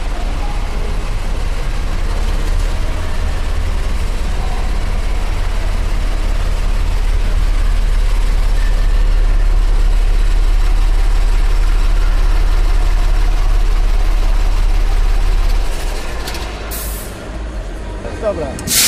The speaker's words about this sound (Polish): Jugosłowiańskiej produkcji autobus turystyczny klasy luksusowej z czasów PRL-u. Od 77 roku do w sumie do 90.